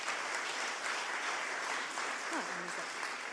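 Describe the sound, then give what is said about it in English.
A crowd claps steadily as several people come up to the front to give brief testimonies, a dense, even wash of many hands at a constant level, with a brief voice or cheer briefly rising above it near the end. “up the front, and you can all clap as they come.”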